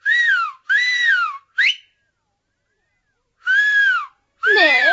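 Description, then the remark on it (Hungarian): A person whistles to call a fiancé: loud, shrill, short repeated blasts, three in quick succession, a pause, then two more, with no voices around them. “Egészen kezes már, csak füttyentenem kell neki.”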